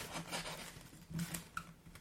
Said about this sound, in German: Das Geräusch ist mehr, wie sie den Burger in zwei Teile, diesen wirklich riesigen Burger in zwei Teile teilt.